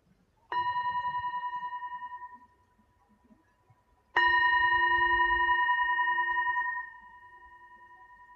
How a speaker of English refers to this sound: Deep gratitude as I end this practice by ringing a bell.